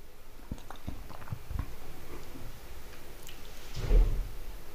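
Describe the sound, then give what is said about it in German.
Soft crunching and clicking noises are followed near the end by a single dull thud as Blackie, a male cat, lands on the floor after jumping down from somewhere. Nobody speaks. “So klingt es halt, wenn Blackie von irgendwo runterspringt.”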